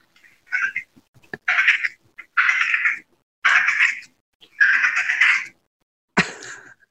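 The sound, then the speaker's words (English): A person imitates a Wyoming prairie dog call with a series of about six high, raspy squeaking chirps, uneven in length and spacing, with brief silences between them. “Here's my Wyoming prairie dog.”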